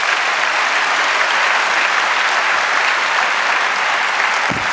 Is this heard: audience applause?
yes